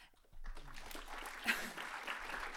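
After a brief hush, an audience at a film screening breaks into applause for a film collector being introduced: a dense, steady wash of many hands clapping that holds at an even, moderate level for a couple of seconds with no voices over it.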